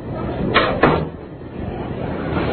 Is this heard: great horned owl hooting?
no